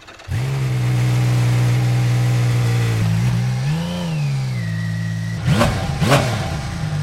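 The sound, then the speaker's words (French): The engine of a rare motorcycle revs up to a steady high drone, dips and swells again, then snaps through two quick, sharp throttle blips near the end; loud, with no talking. “C'est étonnant, ce moteur, en fait, il n'a aucune inertie.”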